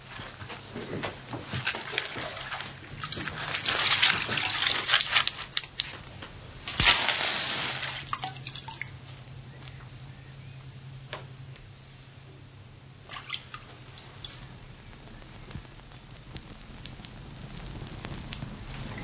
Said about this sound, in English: Watson, would you put a match to that straw? And Constable, will you sprinkle it with water?